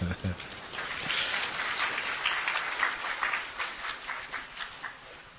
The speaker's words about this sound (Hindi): ताली तो बजाओ।